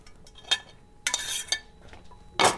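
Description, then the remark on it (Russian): A metal frying pan clanks as it is lifted and set down to lightly brown meat rolls, with a few sharp knocks and a short scrape, fairly loud, with no talking. “сковородку, слегка обжарим, чтобы был цвет.”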